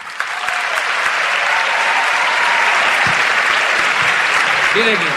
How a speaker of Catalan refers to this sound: Mira, primer, un aplaudiment pel Manu Guix.